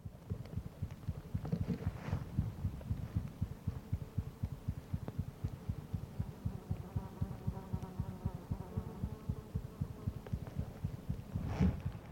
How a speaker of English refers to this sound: With so little space, they often sat right on top of the microphone, enabling me to hear the heartbeat of a sleeping wild osprey, pumping away at over 200 beats a minute.